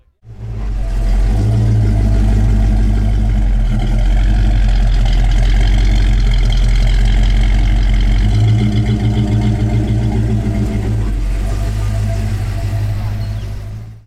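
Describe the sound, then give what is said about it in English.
Car engines idle at a drive-through car show with a steady, loud low rumble that holds for the whole stretch, the pitch shifting slightly about halfway through as another vehicle seems to pull up. “How you can just drive through and see, you know, the cars. You can drive through and look at them and stuff.”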